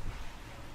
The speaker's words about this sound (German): Dunkle Wolken, Regen, Muskelkater.